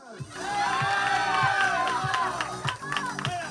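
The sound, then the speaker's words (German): A crowd of around 2000 spectators in an arena roars and cheers continuously as the team enters, with whistles and shouts rising over a steady rhythmic thumping beat, loud and reverberant throughout. “Kurz vor der Vierne, Einlauf in die Arena. Vor rund 2000 Zuschauerinnen und Zuschauern.”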